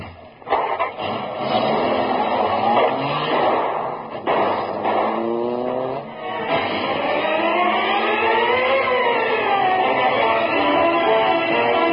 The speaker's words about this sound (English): Here, car. Door open. I'll drive. Get in, you. All right, I'll get in. Okay, okay. We leave in hurry.